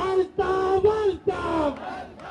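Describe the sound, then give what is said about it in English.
A flag-waving crowd at a sit-in in Karachi, Pakistan, in support of Altaf Hussain, chants loudly in unison in hot, sticky summer air, voices rising in a rhythm of three or four drawn-out shouted phrases separated by brief pauses, energetic. “The heat doesn't deter this flag-waving crowd.”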